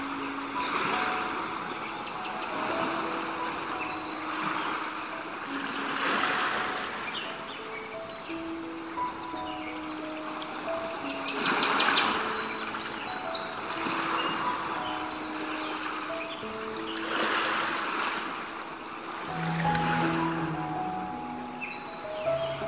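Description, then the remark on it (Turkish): Sea waves roll in slow, steady surges every few seconds, while birds call and chirp continuously over them, some calls sustained and tuneful, others quick and high. “Denizin ve doğanın sesi gittikçe rahatlatıyor.”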